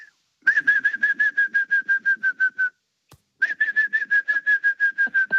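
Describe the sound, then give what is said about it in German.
A person whistles an imitation of a green woodpecker's laughing call, laughing a 'gü' while whistling: two rapid runs of about a dozen clipped, even notes each, separated by a short pause, fairly loud. “Ich hoffe, das klingt einigermaßen, aber so ungefähr wie der Grünspecht.”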